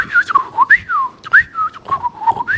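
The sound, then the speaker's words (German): A person whistles an imitation of blackbird song: a few fluting, warbling phrases with swooping pitch slides and brief trills, clear and fairly loud, with no talking. “Das wäre eine Amsel-Imitation.”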